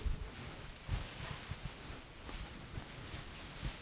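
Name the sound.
paper rustling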